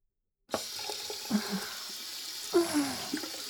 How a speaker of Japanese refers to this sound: これくらいでいいかな。それじゃあ、水で泡を流しちゃうね。